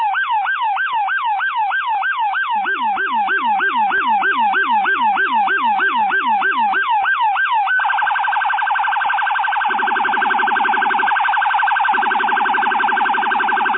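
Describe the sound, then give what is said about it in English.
A loud police car siren in New York City warbles rapidly, then switches to a steady piercing tone, while a deep, low-pitched bass siren tone joins in bursts underneath. “Now, you can't really appreciate the full bass of what you're hearing there with the low pitch noise, but if you've been in New York City, you've probably heard this over the last few weeks.”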